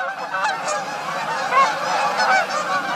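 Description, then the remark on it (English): A flock of Canada geese honking continuously, many overlapping calls, steady and loud with no pauses and no talking. “Let's compare their calls. First, the Canadas.”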